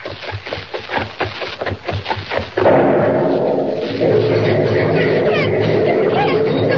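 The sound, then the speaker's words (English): A run of quick, rhythmic thumps gives way to a sudden loud bomb blast destroying a bridge, which spreads into a dense, sustained roar of rumbling and crashing debris that carries on to the end. “The bridge! Gone. Completely smashed. Blown to smithereens.”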